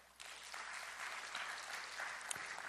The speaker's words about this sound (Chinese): 我回过头来看，我觉得神透过这位基督徒老师拣选了我，我们给神一个掌声。